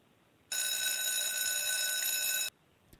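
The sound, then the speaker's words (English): A loud electric bell sound effect marking 'class dismissed' rings steadily for about two seconds, a bright, buzzing metallic tone with dense harmonics that starts and stops abruptly, with no talking over it. “And for those of you that are now listening to us over time, that bell is completely fictional, and we're going to keep going.”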